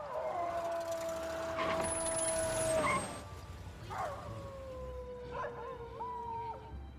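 A dog howls in long, sustained tones that slide slowly in pitch, with a second howl joining in overlapping wavering notes, fairly loud over a faint background hiss.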